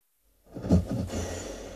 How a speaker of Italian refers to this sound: Questo sospiro indica rilassamento. Lo fanno spesso prima di addormentarsi. Preannuncia un sonnellino in arrivo.